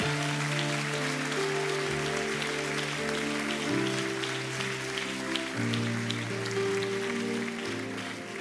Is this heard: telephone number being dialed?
no